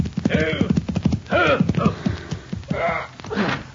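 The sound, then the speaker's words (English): A rider's horse clip-clops and slows to a halt as he reins it in before a cafe, with some voice-like, whinny-like sounds over the steady clopping of hooves. “As our story opens, a rider reins his horse in before the Convict Valley Cafe.”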